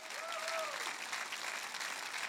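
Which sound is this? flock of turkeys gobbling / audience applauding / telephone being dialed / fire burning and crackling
audience applauding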